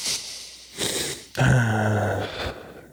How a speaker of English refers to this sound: There it is. Breathing. Chill.